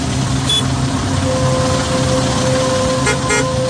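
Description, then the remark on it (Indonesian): Idling car and truck engines rumble steadily in congested traffic, with a sustained horn tone and a couple of brief honks cutting through near the end. No one speaks. “Yang kupikir jalanan lancar, ternyata kami terjebak kemacetan.”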